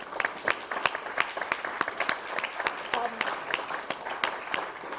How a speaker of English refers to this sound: I think we should give them a round of applause.